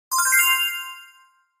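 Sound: small bell ringing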